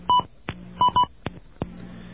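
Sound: telephone number being dialed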